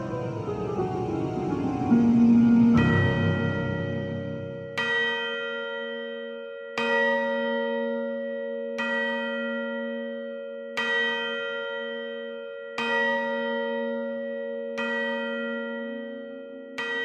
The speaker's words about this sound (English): The bell rang out again for the last time.